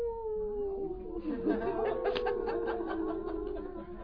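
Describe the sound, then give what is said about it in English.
A human voice imitates a coyote howl: one long, wavering wail that slowly slides downward for about four seconds, fairly loud, with bursts of laughter or chuckling underneath. “and your inner voice, silent so long, will rise up and join the coyote's song.”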